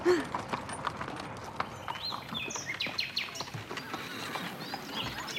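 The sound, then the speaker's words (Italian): Hooves of a horse named Paolino clip-clop in a steady, brisk rhythm as it takes its passengers to the park, with birds chirping and tweeting in the background throughout. “Vi porto al parco, Forza, cavallino.”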